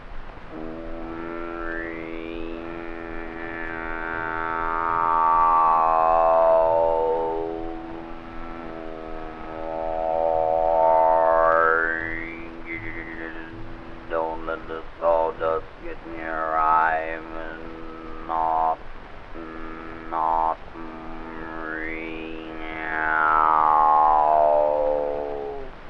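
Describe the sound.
A voice imitates the machinery of a new sawmill: a steady, buzzing drone with a whining overtone that rises and falls in slow sweeps, broken by a few choppy stutters midway, for nearly half a minute.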